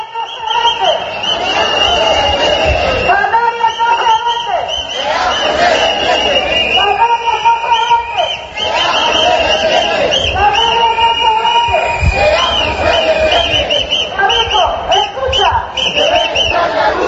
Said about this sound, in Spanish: En la convocatoria hemos escuchado algunos de los gritos de las proclamas que ya escuchamos en las manifestaciones del 20 de abril.